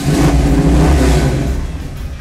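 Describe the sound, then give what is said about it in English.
A muscle car engine is started and rumbles loudly, its deep, throaty idle surging in a rev before settling slightly, with steady low-pitched growl throughout and no voices. “I knew the minute I turned it over and it started that I was buying the car.”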